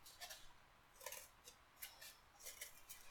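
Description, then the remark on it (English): Scissors cut a hole in the middle of a piece of cardboard using just their tip, in a series of short, crisp snips, roughly one every half second, fairly quiet, with no voices. “Cutting a hole in the middle of a piece of cardboard without weakening the whole thing by cutting straight through it is a little bit difficult, but I think I'm managing.”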